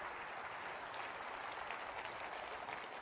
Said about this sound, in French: Quelqu'un devrait applaudir cette vérité biblique.